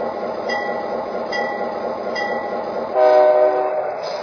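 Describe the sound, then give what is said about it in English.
The Great Lakes Aero Train, a passenger train from Chicago, rumbles steadily into Elkhart on track one, with a loud horn blast rising over the rolling noise near the end, prominent. “from Chicago on track one, the Great Lakes Aero Train.”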